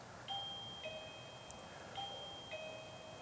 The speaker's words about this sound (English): I know that's the bell, but in case anybody wanted to say something else.